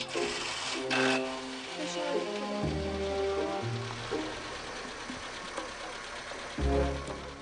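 A car engine runs with a steady low rumble and a mechanical whir, holding fairly constant for several seconds while faint voices come and go over it, as the car is taken to a hospital.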